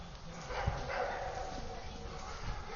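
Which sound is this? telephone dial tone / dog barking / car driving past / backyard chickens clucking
dog barking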